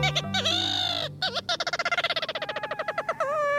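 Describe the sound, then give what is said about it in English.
Ross's gull calling: a few nasal, harmonic yelps, then a fast stuttering run of short, clipped notes, ending on one longer wavering call. No voices. “Ross's gull has a reputation for beguiling birders.”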